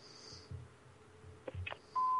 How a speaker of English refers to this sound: Not available now. Please leave a message after the beep.